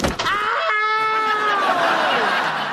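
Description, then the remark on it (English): A man lets out a loud, drawn-out scream lasting a couple of seconds, high-pitched and strained, sliding slightly downward in pitch as it fades. “What happened? Why did you scream?”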